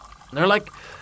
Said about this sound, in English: took three glasses out of his cabinet and began filling each with water.